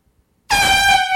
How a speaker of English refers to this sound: I'm going to blow this air horn so you can hear it